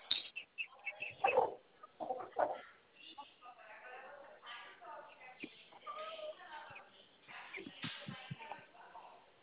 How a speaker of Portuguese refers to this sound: Não, vai matar ele não. Deixa o bichinho quieto. Deixa minhas galinhas quietas.